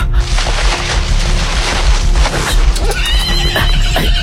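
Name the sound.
horse neighing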